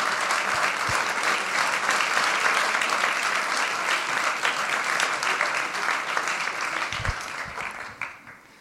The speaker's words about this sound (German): Genau, jetzt komme ich zum Dank. Zuallererst möchte ich allen Speakerinnen und Speakern danken, die ihr alle freiwillig und ehrenamtlich ihre Vorträge gehalten haben. Und ja, vielen herzlichen Dank. Ein Applaus für alle Speakerinnen.